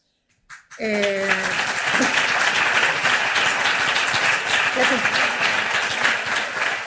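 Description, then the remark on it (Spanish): An audience breaks into sustained applause for a speaker after a brief pause, a dense, steady clatter of many hands clapping that fills the room, with a voice briefly audible at the start. “Y qué triste que tengamos que aplaudir porque todas nos reconocemos en esto, ¿eh?”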